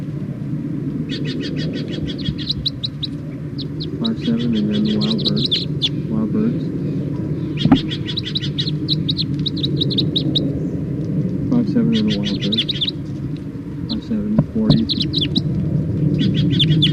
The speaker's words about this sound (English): Start recording the captive birds.